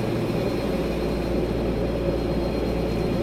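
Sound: airplane cabin engine drone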